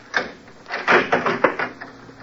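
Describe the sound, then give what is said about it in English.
A short run of metallic clicks and scrapes as a key slides into the door lock of a lush apartment, all glass and chromium, and turns, ending in a sharper click as the bolt gives. No voices. “I'd been there about a half an hour when I heard his key in the lock.”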